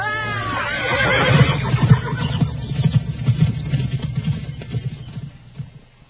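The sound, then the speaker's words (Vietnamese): A horse whinnies loudly at the start, followed by a fast run of heavy hoofbeats that gradually fade as a robber spurs it to gallop away. “Tên ăn cướp dọa nạt xong, liền thúc ngựa chạy mất.”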